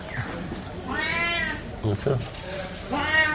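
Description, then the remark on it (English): A cat named Guy meows several times in quick succession, long drawn-out rising and falling cries, with brief pauses between calls and some faint background noise. “I haven't seen cats that talk as much as this one.”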